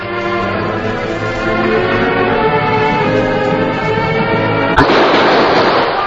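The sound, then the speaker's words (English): Gunfire erupts near the end at an outlaw's hideout cabin: a sharp, loud shot cracks out after several seconds of sustained, droning music, followed by a rough burst of noise. “There was a quick exchange of gunfire.”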